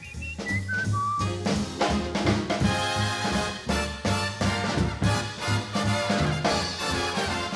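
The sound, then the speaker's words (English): A man whistles a short run of bright, birdlike notes stepping downward at the start, then a loud full band comes in with a strong rhythmic beat and drowns it out. “Oh, he whistles pretty. Yeah, like a bird.”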